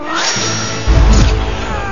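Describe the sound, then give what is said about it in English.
A cat yowls and hisses in a short, agitated burst in a scene from the film Shrek, set against a dense, noisy background with a heavy low rumble that swells partway through. “Come here, little kitty, kitty, kitty.”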